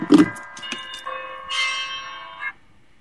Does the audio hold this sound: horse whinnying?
no